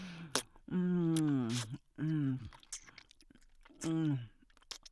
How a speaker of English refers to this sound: Oh. Sucking and slurping. You taste so good.